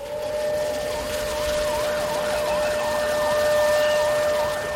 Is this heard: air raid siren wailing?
yes